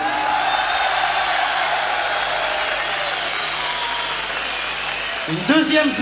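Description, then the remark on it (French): An audience claps in a steady, dense wash of applause for about five seconds, fairly loud and even, before a voice cuts in at the end. “Tu peux les applaudir.”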